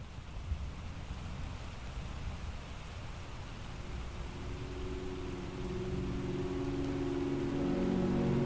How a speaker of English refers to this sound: I have sat at my desk listening to the downpour, rain that sounded so regular and unhurried that it could last forever.